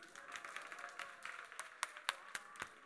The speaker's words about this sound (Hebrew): ולכן, קודם כל, כל הקרדיט, כל המחיאות כפיים מגיעות לכם בלב אחד!